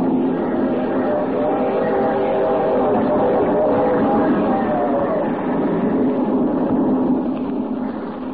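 A steady, heavy rumble of a moving train on the rails, loud and continuous throughout with no pauses.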